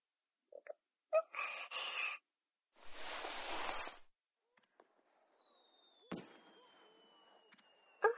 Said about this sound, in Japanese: あ、この音って花火。